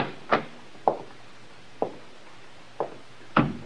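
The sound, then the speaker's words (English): A library door being opened: five sharp knocking clicks and thumps of the latch and handle, spaced unevenly over a few seconds, with no voices. “This must be the library. Try the door”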